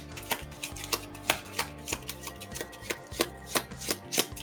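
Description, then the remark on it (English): A deck of cards being shuffled a few times during a card game, a rapid series of crisp riffling snaps and taps in uneven bursts over a low steady background hum, with no one talking. “Shuffling a few times.”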